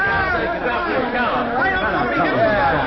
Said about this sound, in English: Heavenly days, look at the crowd,